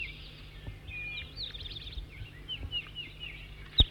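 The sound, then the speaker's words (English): Bird song from a new bird, numbered 206 or 207: a continuous run of quick, high-pitched chirps and short warbling notes at moderate volume over a steady low hum, with one sharp click near the end. “4-3, new bird before was loud.”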